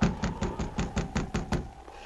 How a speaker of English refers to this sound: Oh, I guess she didn't hear the knock.